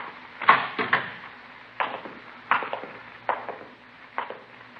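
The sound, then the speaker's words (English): A hospital room door being opened: a series of sharp wooden clunks and rattles from the latch and handle, spaced irregularly over a few seconds, with no voices. “Now, this is his room. You want to open the door?”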